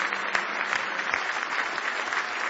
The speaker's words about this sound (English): Praise now give Him one more hand clap of praise if you love Him today.